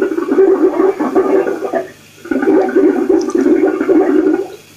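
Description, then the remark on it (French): Loud, churning gurgles of heated gas bursting up through water to the surface, in two long turbulent bursts separated by a brief pause, with no voices. “Renvoi, hoquetement. Aboiement des bulles libérées.”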